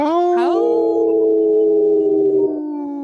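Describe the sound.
Several people howl together in imitation of wolves, voices sliding upward then holding long, steady, overlapping tones for about three seconds before one drops out near the end.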